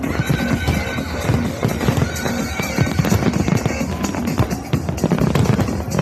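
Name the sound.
fireworks exploding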